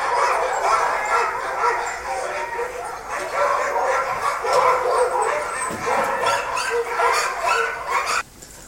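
A pack of harnessed sled huskies pulling a sled barks and yips excitedly in a dense, overlapping chorus, loud, with occasional whines, continuing steadily before cutting off abruptly near the end.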